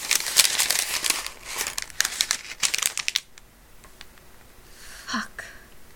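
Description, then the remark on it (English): Paper crinkles and rustles in quick, irregular bursts for about three seconds, then the handling quiets to a few faint scattered rustles. “Let me get that paper so you can come inside it.”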